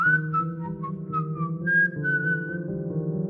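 A person whistles aimlessly, drifting between short wandering notes with no recognizable tune, fairly close and steady over a low sustained hum throughout.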